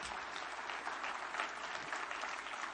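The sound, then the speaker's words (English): Steady applause from a crowd giving a clap offering in a morning service, many hands clapping in a dense, continuous patter with no clear rhythm, fairly loud and sustained throughout, with no voices standing out. “Hey, give him a good clap offer this morning.”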